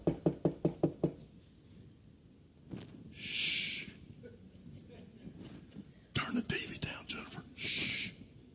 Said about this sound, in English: I think the scripture says, there's a knock. What you going to do with that knock at the door?